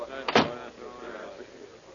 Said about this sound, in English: Oh, we're the last ones in. Close the door, will you?